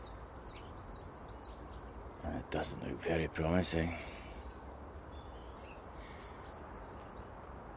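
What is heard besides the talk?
birds singing outdoors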